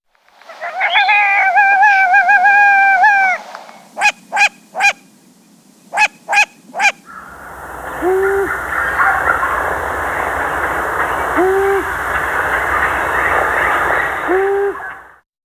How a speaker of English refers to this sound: Long-eared owl.